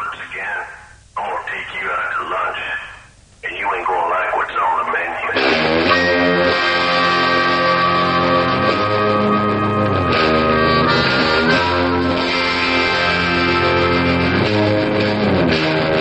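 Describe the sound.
A few seconds of radio-style talking give way to a song that kicks in loudly, with full, sustained instrumentation and a sung melody carrying steadily to the end.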